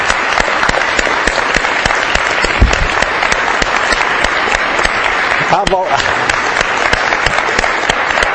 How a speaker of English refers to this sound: I know we can't all hug him, but we can give him a applause of appreciation for his faith and his courage. Would you stand and give him...